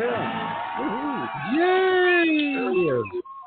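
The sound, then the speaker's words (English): A crowd cheers loudly at the start of the All About Wine radio show, with overlapping voices whooping and shouting in rising and falling pitches for about three seconds before cutting off abruptly. “I think that's the same crowd we had last time. It sounded similar.”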